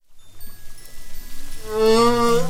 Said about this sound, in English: That, in case you didn't know, is a humpback whale singing.